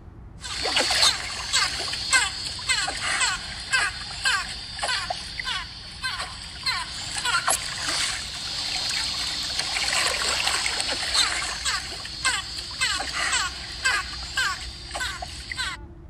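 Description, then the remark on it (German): Steady water splashing and trickling runs throughout, overlaid with frequent high-pitched squealing dolphin cries, some loud, others fainter, forming a busy, continuous chorus with no talking. “Also man hat auf jeden Fall wieder Wasser gehört, also aquatisches Ökosystem.”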